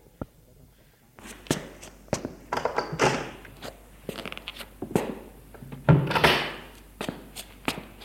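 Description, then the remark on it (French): A series of wooden thunks and knocks with scraping and rustling between them as a man pulls open and handles the drawer of a writing desk to take out a letter, plus a few footsteps and door sounds, no talking. “Pour lire la lettre et savoir où elle se trouve, il va ouvrir le tiroir de son secrétaire.”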